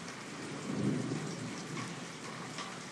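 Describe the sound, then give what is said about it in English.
A low rumble of thunder swells and rolls through steady, hissing rain, moving across from right to left, peaking briefly before fading back into the continuous downpour. No voices are present. “Nice big thunder.”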